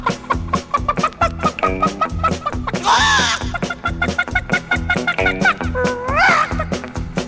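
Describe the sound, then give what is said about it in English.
A voice imitates a frantic, panicking chicken running from a cockerel, clucking in quick choppy bursts with a couple of rising, squawking wails, over a steady rhythmic backing that continues throughout. “The chicken was panicking a little bit and he was going.”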